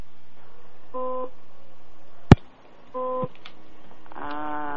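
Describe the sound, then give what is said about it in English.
Short electronic beeps sound twice, about two seconds apart, with a sharp click between them and a longer, denser tone starting at the end. No one speaks over the steady low background hum. “What's that beeping?”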